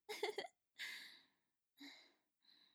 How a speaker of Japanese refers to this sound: やっぱりゲップするの気持ちいい。